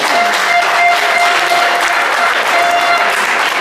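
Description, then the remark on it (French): An audience at a competition applauds steadily for helpers who are not present, a dense, even wash of many hands clapping at once that stays loud and continuous without pause. “Donc je pense qu'on peut les applaudir même s'ils ne sont pas là.”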